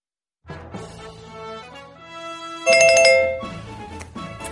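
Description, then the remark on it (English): A cell phone ringtone, coming from inside a bag, plays a bright, chiming electronic melody that jumps louder partway through and keeps repeating its notes, with no voices present. “digs inside her bag and finds her cell phone”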